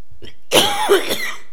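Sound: coughing and throat clearing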